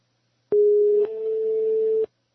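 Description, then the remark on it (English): A single steady electronic ringing tone of an international telephone call being placed, a low continuous hum lasting about a second and a half before cutting off abruptly, heard clearly on its own with no talking. “It's ringing. One ringy dingy.”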